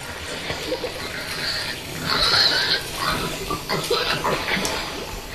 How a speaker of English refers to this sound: One of the most bizarre sounds that I encountered in Brazil was the sound of a pig that had fallen into the hotel swimming pool.